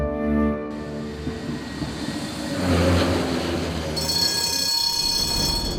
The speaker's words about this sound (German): Mit der Straßenbahn.